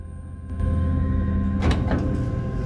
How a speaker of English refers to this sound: The door suddenly opens and a guy enters and presses his floor.